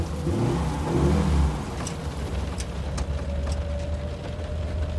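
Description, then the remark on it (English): A car with a canvas top revs up loudly for about a second and a half as the driver sets off at night during a violent tropical storm with thunder, then settles into a steady idle hum under a wash of rushing, rain-like noise and a few sharp ticks. “When it makes landfall, he hops in Freddy's car, determined to make the journey.”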